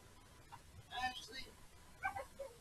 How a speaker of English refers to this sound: Even Joy says hi. Listen to that. Did you see that? Even the puppy said hi.